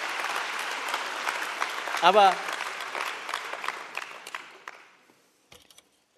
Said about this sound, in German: Ich bin kein Poet, aber trotzdem habe ich gewisse Gaben. Okay, ihr dürft schon mal klatschen. Aber, okay.